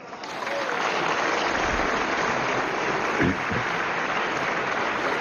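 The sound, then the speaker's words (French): Dense, sustained standing ovation from French deputies at the Assemblée nationale, opening the session of questions to the government: a steady wash of many hands clapping at an even, loud level for long seconds without a break and with no voices standing out. “Des députés tous debout qui applaudissent pendant de longues secondes.”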